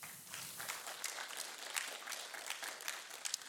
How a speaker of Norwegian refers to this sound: Tusen takk til lovsangsteam. Kan vi gi dem en applaus?